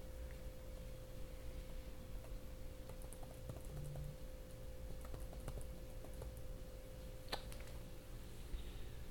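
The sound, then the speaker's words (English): Soft, irregular clicks of someone typing on a laptop keyboard, quiet, with a steady electrical hum underneath and no one speaking. “This keyboard also takes a little bit of getting used to for me.”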